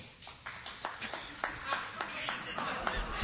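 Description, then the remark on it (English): Sparse, scattered applause from an audience clapping to grade the mainstream media an A for its election campaign coverage: a handful of irregular, sharp claps rather than a full ovation, fairly quiet, over a low murmur of background crowd noise. “Clap if you would give the mainstream media an A.”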